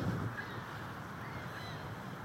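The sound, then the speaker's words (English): Faint seagull calls ring out a few times over a steady wash of outdoor background noise, with no one speaking, around a water fountain in Grant Park on the shore of Lake Michigan, Chicago, as the sun rises. “The bird songs today include some seagulls.”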